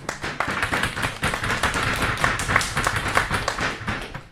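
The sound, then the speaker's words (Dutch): A small group claps steadily for a few seconds, a dense patter of overlapping hand claps at even loudness with no voices on top. “Jongens, je moet er nu even klappen, denk ik.”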